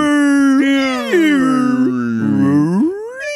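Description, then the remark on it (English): A loud, drawn-out whale call of the humpback kind, an eerie moaning wail with rich harmonics that swoops down and then rises in pitch over several seconds, with no talking. “Humpback whale calls.”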